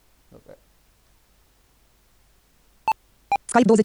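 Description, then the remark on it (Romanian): Two short, bright electronic beep tones sound a fraction of a second apart, positional cues from the NVDA screen reader with an add-on, indicating by tones, sometimes on the left and sometimes on the right, the location of the focused object; a voice starts speaking right after them. “sau cu ajutorul acestui add-on, NVDA-ul indică locația obiectului pe care noi suntem focalizați prin tonuri. Ați văzut că unele tonuri se aud ba în stânga, ba în dreapta.”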